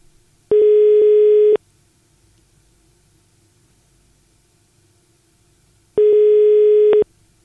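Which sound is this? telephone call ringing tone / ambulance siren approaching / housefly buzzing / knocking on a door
telephone call ringing tone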